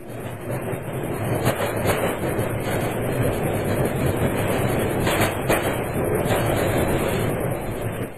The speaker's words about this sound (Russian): Поезд тронулся. Под страшную ругань прапорщика и пронзительный свист тепловоза